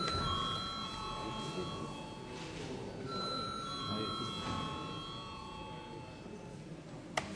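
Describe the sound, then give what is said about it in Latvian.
A parliament chamber bell, rung because deputies ask for a vote, rings in long, steady electronic tones that repeat over several seconds, sounding through the murmur of the chamber, with a brief click near the end. “Deputāti prasa balsojumu. Lūdzu zvanu.”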